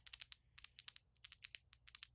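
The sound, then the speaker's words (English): Rapid, crisp fingernail taps and clicks made for ASMR in uneven bursts, about twenty sharp bright ticks with brief pauses between clusters, fairly quiet with no voice over them. “Let me play with my nails a little bit.”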